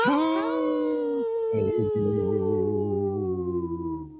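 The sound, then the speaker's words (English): A person imitates a deep wolf howl, one long sustained rising-then-falling tone that wavers and fades over several seconds, fairly loud with no other sounds. “Did you hear I went, ho, like a deep wolf's voice?”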